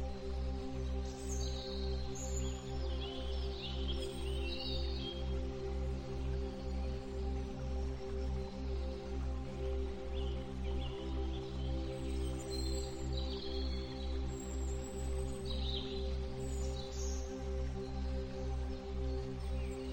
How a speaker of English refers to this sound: You can hear the gentle rustle of leaves and the soft chirping of birds.